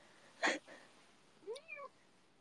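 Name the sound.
cat meowing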